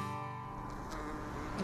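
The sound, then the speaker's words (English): A steady buzzing of bees hums outdoors in a meadow in Montpelier, Vermont, strongest at the start, then blends into a wash of breezy background noise with no voices. “Today we head out into a meadow in Montpelier where the bees are buzzing to learn about the life of a bumblebee in Vermont.”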